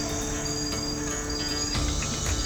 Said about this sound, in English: It's a nature reserve. Can you hear the wildlife? Hummingbirds, parrots, toucans. There are 336 bird species here, as far as they know.